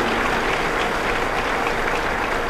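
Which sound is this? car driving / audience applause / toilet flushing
audience applause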